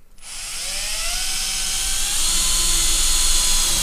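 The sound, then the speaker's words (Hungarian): A power drill whirs steadily, its motor whine climbing slightly in pitch as it bores a hole into material, loud and continuous with no voices. “De akkor fogd be azt a lyukat, amit most fúrtál.”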